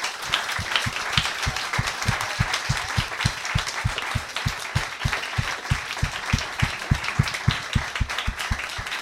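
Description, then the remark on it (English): An audience at a live show applauds four panelists, a dense wash of many hands clapping with a few stronger, rhythmic claps standing out in a regular beat throughout. “Well, I'd like to give a big round of applause and thank you to our four brave panelists.”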